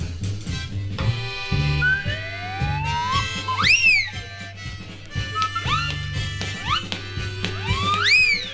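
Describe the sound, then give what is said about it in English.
A swanee slide whistle swoops up and down in repeated glides, loud, over a band playing a steady thumping beat with sustained reedy chords underneath. “Mama don't allow no siren, swanny whistle and mouth organ playing in here.”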